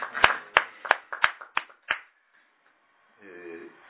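About half a dozen sharp, close handclaps in a steady, even rhythm, stopping after two seconds; a short pause follows, then a voice begins speaking.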